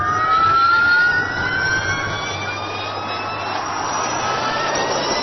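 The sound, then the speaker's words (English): All-electric Formula E race cars whine past, a loud, steady high-pitched hum with tones that glide downward over a broad rush of track noise, no voices. “Formula E are all-electric race cars with backers like British billionaire Richard Branson and actor Leonardo DiCaprio.”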